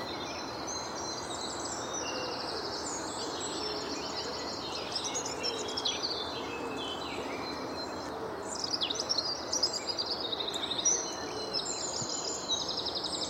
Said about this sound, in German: Atmo, Dienstag, 20. April 2021, 6.36 Uhr, Hördeweg, Gelsenkirchen. An wilder Siedlung, verbarrikadierte Eingänge, unter Hochspannungsmast, daneben freies Feld und Wald. Und läuft.